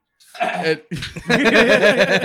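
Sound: sneeze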